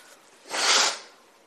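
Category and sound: human body sound, nose blowing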